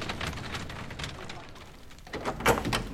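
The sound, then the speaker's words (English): A black door swings shut with a sharp thud about two-thirds of the way through, preceded by rustling, shuffling movement and a faint murmur of background voices. “Black door, snip snap.”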